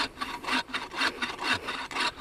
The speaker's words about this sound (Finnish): No miltä se tuntuu sahatessa? No sehän on semmoinen tiukka kuin mikäkin, että ei helppo sahattava. Eli tiedät jo nyt tavallaan, että se ei ole lahoja. Joo, kyllä tää on ihan kovaa puuta, että hyvä näyte tulee.